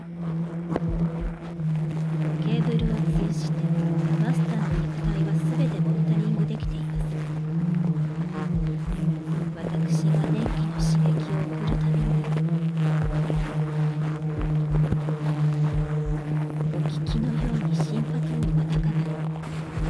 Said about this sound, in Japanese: これはマスターの心臓の音でございます。